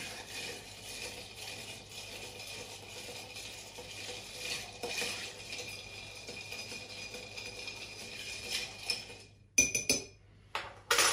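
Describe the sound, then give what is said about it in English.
A bar spoon slowly stirs a martini made with 15 ml of Dolin vermouth over ice in a glass, giving a continuous soft clinking and rattling for several seconds, ending with a few sharper clinks. “And we're going to give that a nice slow stir.”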